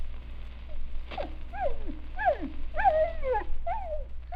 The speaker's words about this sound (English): You ever hear dogs talk? Well, now, you listen to Wee Lass Pekingese and Scotty Terrier.